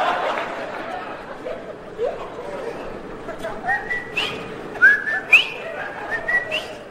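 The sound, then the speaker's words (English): A person whistles a bubbly, bird-like bobolink call, a burst of short rising and sliding notes over a murmur of background chatter and light laughter. “Ooh, a bobolink.”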